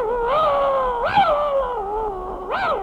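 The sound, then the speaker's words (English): A dog howls and whimpers in long, wavering tones that rise and fall, with a couple of sharper upward yelps, fairly loud, with no talking over it. “Will your dog bite me?”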